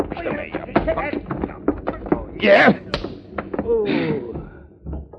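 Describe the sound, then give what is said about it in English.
A punch lands and a man is knocked down amid a scuffle of sharp thuds and bumps, with strained grunts and shouted voices mixed in, all fairly loud. “Only I shouldn't have hit this guy so hard.”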